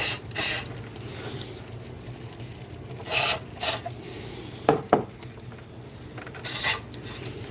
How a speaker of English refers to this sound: I think I'm gonna spray a little more of that cleaner. I'm doing this by opening up the throttle thing and then spraying.